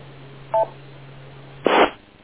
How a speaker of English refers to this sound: W2ILP, wait for the beep, K2RIW.